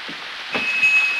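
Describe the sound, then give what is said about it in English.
Rain falls steadily as a continuous, fairly loud wash of hiss, with soft low thuds scattered underneath and a faint high whine joining halfway through. No one speaks. “Now, out in the rain, a man wearing a caped coat and holding an umbrella walks to the March's front door.”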